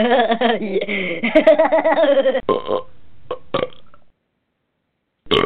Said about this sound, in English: You've been working on that sound effect for a long time. You know, you got to get that last burp in.